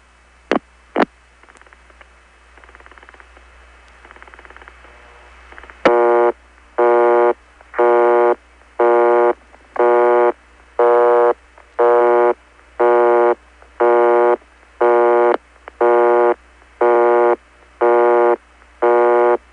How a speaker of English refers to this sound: Now you can hear the timbre of that busy tone changing as other callers get it and listen to it for a while and hang up, and depending upon how many people are connected to it, the timbre changes. But the frequency is right on,